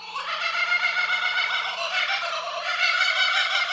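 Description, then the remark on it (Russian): A kookaburra, an Australian bird, gives its loud laughing call, a raucous, rapidly pulsing cackle that rises and carries on without pause for several seconds, clear with no voices present. “И очень часто в Австралии люди просыпаются под смех кукабары.”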